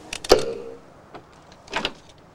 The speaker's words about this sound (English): The door opens, and Wanda slips inside. She gives Otto a cursory wave and closes the door on him.